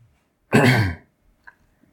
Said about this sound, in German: Tut mir leid. Ich huste jetzt irgendwie mehr. Entschuldigung.